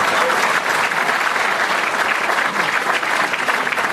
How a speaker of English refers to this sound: How about a big round of applause for Carol Lewis?